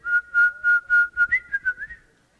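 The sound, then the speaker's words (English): A whistled imitation of a nightingale singing: about ten clear, fairly steady mid-high notes in a quick rhythm, the last few rising slightly and growing softer before fading out. “Nightingale really knows how to sing interesting songs.”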